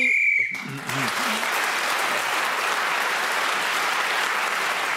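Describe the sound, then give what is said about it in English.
A single short, shrill whistle blast, blown to end a round, cuts off abruptly and is immediately followed by loud, steady applause from an audience that continues to the end. “So, at the end of that round, Paul Merton was speaking as a whistle when gained that extra point.”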